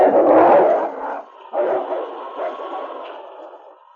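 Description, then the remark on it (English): A pack of wolves growl and snarl together in a rough, overlapping chorus, loud, the angry rumbling swelling at first, briefly dipping, then continuing more steadily before trailing off. “A chorus of angry growls arose from the pack.”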